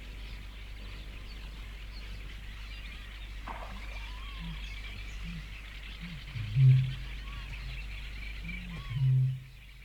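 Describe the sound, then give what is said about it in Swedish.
Low, moaning bird calls heard at night come in short bursts, two louder ones standing out near the end, over a constant chorus of faint, high-pitched birdsong from other birds and a steady low hum. “Hela natten kommer de här stönandena att höras över alla de andra fåglarnas röster, fast det är långa pauser mellan serierna.”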